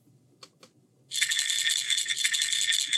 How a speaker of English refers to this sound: So there's a little bit of an attention grabber and then something metaphorical so you can really tell what it is. Right, the sound of the pill bottle kind of cues medication in your head